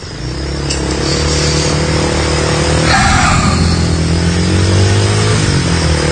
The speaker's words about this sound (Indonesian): Aku pun menggunakan sepeda motor menyusuri jalan setapak di sana.